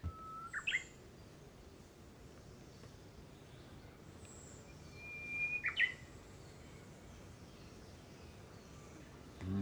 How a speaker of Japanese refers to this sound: これはウグイスですね。 でもね、伊豆諸島にいるウグイスは、はい、飯島ウグイスという、本州とは少しこう種類の少し違うウグイスなんです。 ああ、そうですか。鳴き声なんかも微妙に違うわけですね。 ちょっとのどかでね、のんびりしてましょう。